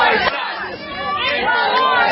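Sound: protest crowd chanting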